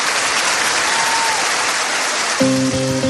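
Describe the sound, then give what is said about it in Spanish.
An auditorium audience claps steadily and loudly throughout, applauding an important figure, a dense wash of applause; near the end a sustained musical chord rises over it. “Una figura importante quiere iluminar con su brillo particular este aplauso.”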